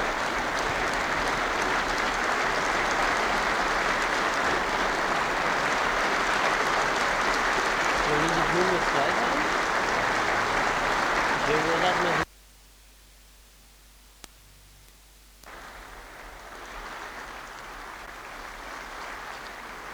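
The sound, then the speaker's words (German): A large audience at a film premiere claps in a loud, dense, sustained burst of applause that cuts off abruptly to near silence, followed by a softer wash of clapping. “Liebe Genossen und Genossen, der Beifall, glaube ich, sagt mehr als alle Worte es vermögen.”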